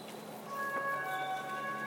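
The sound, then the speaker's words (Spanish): A police siren from a Mossos police car sounds over a steady background hum, its tone holding fairly even and rising slightly in level halfway through; it is raining. “Ya hay un coche de los Mossos que supongo que va a cargar en breve por aquí cerca.”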